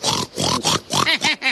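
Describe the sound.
A pig oinks and snorts in a rapid series of about six loud grunting bursts, the last few rising into squealy, nasal tones.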